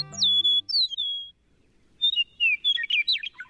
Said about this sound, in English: With their bright yellow breasts and superlative songs, meadowlarks are among our most familiar and cherished birds. The eastern meadowlark's clear whistled music is the unmistakable anthem of eastern North America's farmlands and open country.